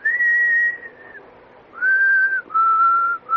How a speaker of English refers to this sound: No, it's just what I whistle. You asked me what I was whistling. That's not a real tune, I suppose. I always whistle that.